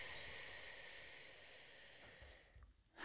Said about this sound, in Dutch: Nou, de meest eenvoudige vorm die ik eigenlijk altijd gebruik is wat we noemen de windademhaling. Waarbij je je lippen een klein beetje tuit als je inademt. Mm-hmm. En dan hoor je het geluid van de wind.